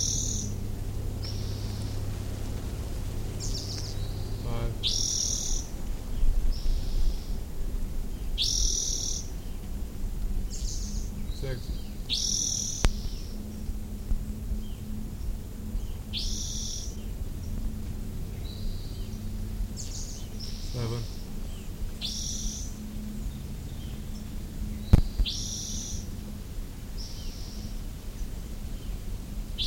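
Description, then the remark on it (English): A bird, seemingly a male missing its tail, in a group of rufous-headed towhees, gives sharp, high chip calls again and again at a steady, unhurried pace, each note short and clear above a low, constant background rumble. “I was trying to record that chip chip chip chip.”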